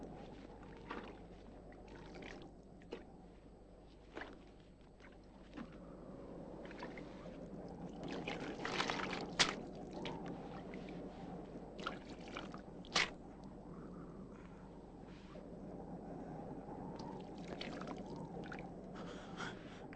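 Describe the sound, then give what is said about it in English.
Water is poured and sloshed for a thirsty man to drink, with uneven splashy gurgles and a few sharper drips and knocks over a low steady hum. No one speaks. “Give him some water.”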